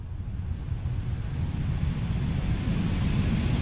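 A vent pushed right up close blows a steady flow of air, a loud, low rumbling whoosh that holds even and constant throughout, with no voices.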